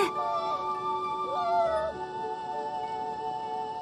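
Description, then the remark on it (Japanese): A harp seal pup weighing about 8 kilograms wails in two drawn-out, wavering cries, each rising and falling in pitch, clear over a steady background hum, with no one speaking. “これがタテゴトアザラシの赤ちゃんです。”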